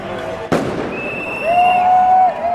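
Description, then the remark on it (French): A loud firework bang cracks out once over the steady din of a large outdoor crowd of more than 10,000 people celebrating in the evening at Place de la Dignité in Santiago, followed by long, high whistling tones rising above the noise. “Sous les feux d'artifice, plus de 10 000 personnes se sont réunies dans la soirée, place de la Dignité, comme l'ont rebaptisé les manifestants depuis le mouvement social d'octobre dernier contre les inégalités.”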